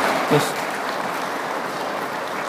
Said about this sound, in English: Thank you, children. are doing so well. I think you should give them, they're small, give them a wee round of applause.